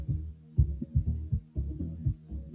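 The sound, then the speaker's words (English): A person's own heartbeat, heard while lying still and breathing in silence, thumps in a steady, repeating rhythm of deep, muffled low pulses, fairly loud, with no voices or other sounds around it. “The hours, just lying there, just breathing, have your own heartbeat.”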